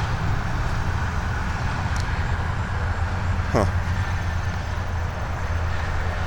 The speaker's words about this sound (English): And I'm sure you can hear the traffic. That's 480. Interstate 480. No, 680.